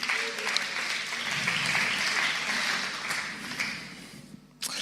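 A crowd claps steadily for several seconds, a dense wash of many hands that stays fairly even before breaking off abruptly near the end.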